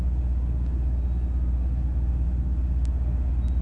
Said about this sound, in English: At that time, the traffic was not pronounced on Route 155. At this moment, it surely is.